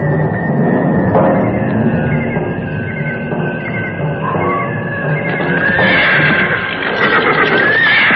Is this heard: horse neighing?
yes